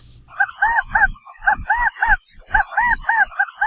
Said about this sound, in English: Today we feature a bird from the Golden State. University of Hawaii at Hilo Professor Patrick Hart introduces us to the California quail.